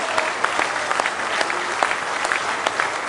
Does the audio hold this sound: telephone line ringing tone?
no